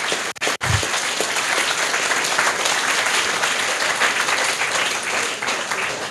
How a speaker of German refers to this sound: Naja, auf jeden Fall eigentlich müssten Sie jetzt sehen, dass Sie sehr laut geklatscht haben.